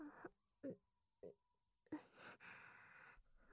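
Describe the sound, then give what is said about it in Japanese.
Insects chirp in a steady, rapid pulsing trill, faint against a quiet night, heard from outside a mosquito net, with a few soft rustling bumps. “目を閉じ、蚊帳の外から響く虫の音に耳を傾ける。”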